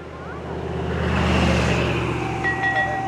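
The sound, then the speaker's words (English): A soft two-note ding dong chime, triggered by GPS as the user closes in on a rain garden, sounds near the end, a higher tone followed by a lower one, over the steady low rumble of a vehicle engine. “That's the ding dong.”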